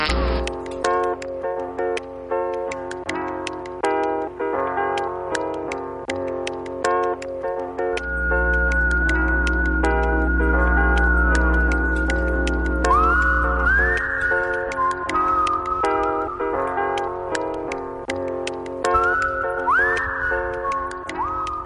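Upbeat instrumental music led by a whistled melody with sliding notes over crisp ticking percussion and a deep bass passage partway through, playing steadily and loudly with no talking.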